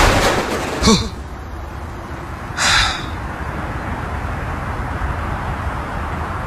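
Steady rushing strong wind blows at night throughout, broken by two sudden loud bangs, one just before the first second and a longer one shortly after, as the wind slams a window shut.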